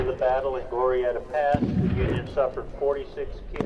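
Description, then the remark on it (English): A heavy cannon blast at a reenactment of the Battle of Glorieta Pass booms out midway and rolls into a long, low rumble, with shouting voices before and after and another sharp report near the end. “And in the ringing half-silence that follows nearly an hour of sustained cannon fire”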